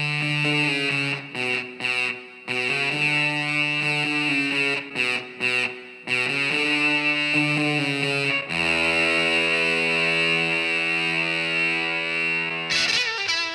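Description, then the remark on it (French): A loud fuzz-distorted electric guitar plays a choppy riff of short stabs, then holds sustained buzzing notes, its thick saturated tone imitating a brass section, on the first recording of a song. No voices. “fait un fuzz, c'est-à-dire une distorsion du son de sa guitare pour imiter le son des cuivres.”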